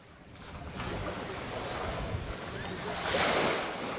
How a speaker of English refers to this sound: Small waves from the Mediterranean Sea lap the sand in Gaza's main fishing port. Dozens of low wooden boats line the shore.